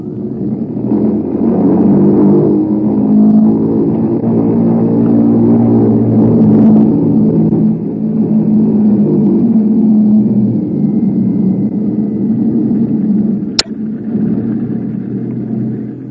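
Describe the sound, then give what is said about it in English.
Powerful piston engines of a bomber, the Bumblebee, lead ship of the 236th Wing, drone and rev steadily during an engine run-up at the head of the runway, a thick, loud rumble with shifting tones that holds for the whole stretch, broken once by a brief sharp click. “The mills of the gods began to grind, I would say, while we were completing our engine run up at the head of the runway.”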